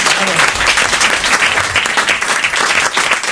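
An audience claps steadily, a dense wash of many hands that stays loud and even throughout, with faint voices mixed into the applause.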